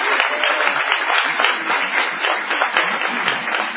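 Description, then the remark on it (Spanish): Steady applause from an audience on the AM750 radio programme, a dense wash of many hands clapping at an even, sustained loudness with no voices standing out. “Quizás podremos utilizar el envión del aplauso.”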